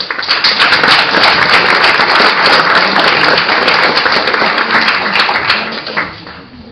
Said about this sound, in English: And on behalf of the Notre Dame debate team, I think we should all give one more big round of applause to all four of our debaters here.